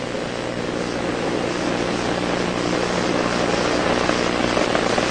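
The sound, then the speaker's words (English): Space Shuttle Challenger's main engines roar during ignition and liftoff on the Spacelab 2 mission as the shuttle clears the tower and throttles down to 65%. A thick, unbroken wall of rumbling noise holds a steady, loud level from start to finish, with no voices. “They'll be throttling down to 65% throttles on their main engines.”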